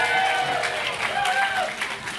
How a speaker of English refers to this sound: Big round of applause